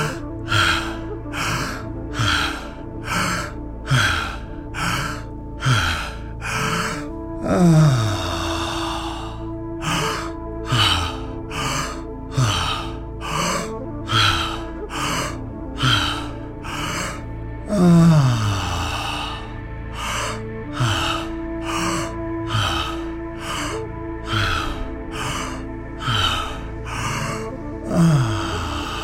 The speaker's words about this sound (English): So we will do 20 breaths, 4 full fast, 1 slower breath with a big sigh on the exhalation. And then we will repeat that 3 times. So let's begin. Wide open mouth, breathing in and out through our open mouth.